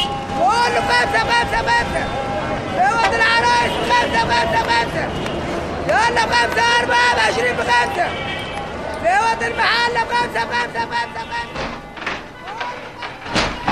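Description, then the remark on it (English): A man selling tea towels in Cairo city centre shouts loud, drawn-out calls again and again, each rising and falling in pitch, over a steady roar of Cairo traffic and street noise with occasional thuds. “And so one man trying to sell tea towels in Cairo city centre really does have to shout to be heard.”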